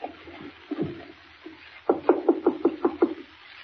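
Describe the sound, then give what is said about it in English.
A quick run of about seven even, solid knocks on the wooden door of a colonel's office quarters, fairly loud, preceded by a few softer, scattered thumps and a low background hum. “If you say there's a light in the room, knock again.”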